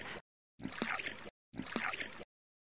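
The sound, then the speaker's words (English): Oars dip and pull through water in steady, evenly spaced strokes as someone rows a boat very quickly with two oars. Each stroke is a splashy, sloshing surge with brief silence between. The rowing is fairly loud, with no voices. “She takes her oar and Julie's too and starts rowing very quickly.”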